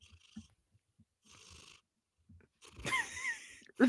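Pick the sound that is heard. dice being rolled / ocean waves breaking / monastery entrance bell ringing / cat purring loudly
cat purring loudly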